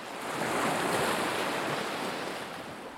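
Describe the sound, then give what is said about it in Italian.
Sea waves wash continuously onto the shore of the Ionian Sea at Marina di Ugento in Salento, Italy, in a broad, steady roar that swells and slowly eases, with a faint wind hiss and no voices. “È un posto di mare, anzi, una delle località di mare più belle e frequentate del Salento.”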